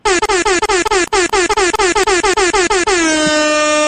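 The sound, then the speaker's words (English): A loud, rapid string of air horn blasts stutters in quick bursts, about a dozen in a row, then ends in one sustained blare. No voices, just the brassy horn. “Where the hell is my goddamn air horn? There it goes.”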